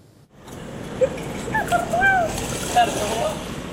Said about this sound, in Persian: آب رودخانه فرات از نهر در این شهری یک زمان اشغال شده جاری است. اینجا رقه در سوریه است.